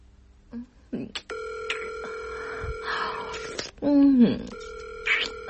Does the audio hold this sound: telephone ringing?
yes